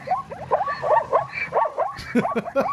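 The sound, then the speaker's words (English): A rapid run of harsh, barking calls from a zebra at the Hattiesburg Zoo, repeated about eight or nine times in quick succession, loud with no talking. “Yeah, they kind of bark.”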